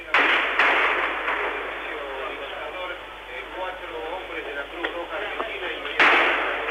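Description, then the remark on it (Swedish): A few sharp cracks of sniper gunfire, aimed at the Edificio Libertador military headquarters, ring out at scattered moments over a dense, noisy outdoor din. Murmuring voices and commotion sit underneath, with one louder burst near the end. “Plötsligt bryter skottlossningen ut här utanför Edificio Libertador, militärhögkvarteret.”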